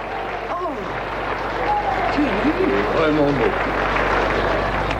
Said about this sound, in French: Il s'assoit. Les autres applaudissent.